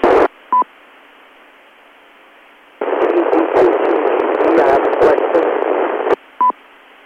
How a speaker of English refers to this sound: Yeah, it's a very noisy signal.